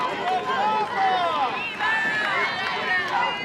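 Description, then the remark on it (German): A large crowd of pilgrims in Rome, German visitors from the Archdiocese of Cologne, cheers and shouts together as Pope Francis greets them, many voices overlapping in a loud, steady roar with rising and falling calls throughout. “Als Papst Franziskus diese deutschen Besucher begrüßt, bricht sofort Jubel in der Menge aus.”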